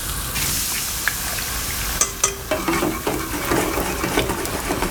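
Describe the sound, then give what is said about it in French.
Steady hissing sizzle of food frying in a pan, with scraping and clinking as a utensil stirs it, several sharp taps after the first couple of seconds; no voices. “Ça touille, ça crépite, c'est des bruits qui sont quotidiens, des super forts de l'assiette, c'est notre thème ce matin.”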